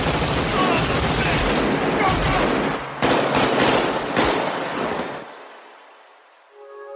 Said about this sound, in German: Und wenn nichts mehr hilft, gibt es wenigstens eine ordentliche Schießerei.